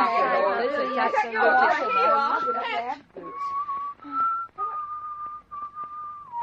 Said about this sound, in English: Listen to that. He's whistling Home, Sweet Home.